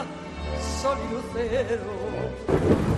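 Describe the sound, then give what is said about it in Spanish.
Low rolling thunder rumbles beneath steady rain, with a wavering tonal melody layered on top and a louder burst of noisy rainfall near the end. “La lluvia, el socio perfecto para tu cultivo.”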